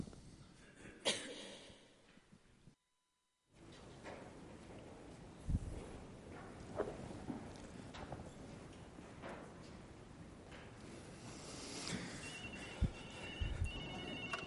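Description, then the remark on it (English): A telephone rings with shrill, repeating electronic tones amid room noise and scattered thumps during a church service, after a brief moment of silence near the start; no one speaks. “The bat phone.”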